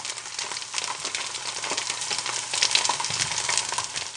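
Sausage sizzling in a frying pan: a steady crackle and spit of hot fat that holds at an even level throughout, with no voices.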